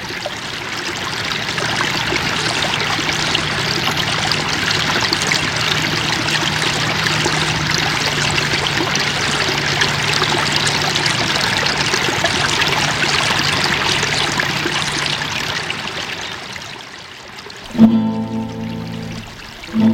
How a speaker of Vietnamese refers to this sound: Ước gì nàng được ngồi suốt ngày ở đây, lắm xa những cặp mắt khốn khổ ở Tara, ngồi đây để nghe tiếng lá reo xào xạc và tiếng nước róc rách chảy dưới bầu trời yên tĩnh.